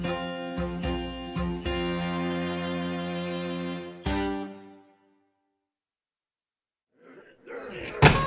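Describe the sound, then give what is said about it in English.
A tavern's louvered saloon doors swing and flap shut with a few quick wooden thumps as a huge man in a bearskin tunic walks through, then a final knock, over a sustained musical tone; after a pause a voice begins speaking. “A giant in a molted bearskin tunic lumbered through the tavern's louvered doors and stopped, fingering the sawed-off Winchester holstered on his waist and gazing around the saloon like a bear sniffing out a trash heap.”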